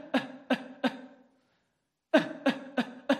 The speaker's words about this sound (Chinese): 发力点呢就在你的下面，肚脐眼下面三指的地方啊，俗称丹田嘛，对不对？当你在咳嗽的时候，你的丹田会瞬间的发力，把气息推出来，就像这样。